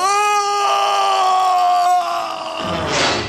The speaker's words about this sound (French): Le crocodile s'impatiente. Le capitaine Crochet pousse un hurlement d'épouvante.